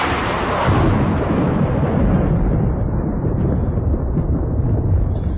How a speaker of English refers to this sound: Well, I see my thunder was a bit premature, but that's all right.